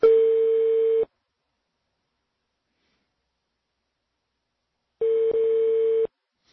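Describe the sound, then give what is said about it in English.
Two long, steady telephone beeps at a single mid pitch, each lasting about a second, separated by several seconds of silence, with no talking; the ringback of an outgoing phone call to Glenn Greenwald, heard as beeps instead of rings. “You get beeps instead of rings.”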